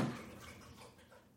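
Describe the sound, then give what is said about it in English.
Quiet, wet lapping of a pet named Ursula drinking water, a quick series of soft splashy laps with no voices. “She's not snoring. Yeah, she's just thirsty. I want to see how long she'll drink water.”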